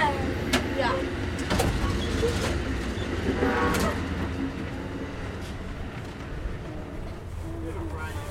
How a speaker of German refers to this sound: werden Sie jetzt schon gemerkt haben, diese Zugfahrt ist eher laut. Also hier klappert alles, hier sind die Türen laut, wenn man sie auf und zu macht. Ständig hat man das Getute von dem Zug, also von der Lok. Also man hat immer so ein Grundgeräusch.